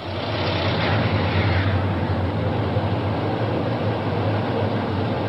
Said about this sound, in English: A quick hello and thank you to his police escort, and he's off into the frantic, dangerous traffic of downtown Madrid.